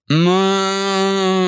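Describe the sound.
A person imitates a cow with one loud, sustained, steady moo that starts abruptly and holds at full strength for over a second, a deep droning voice with no other sounds.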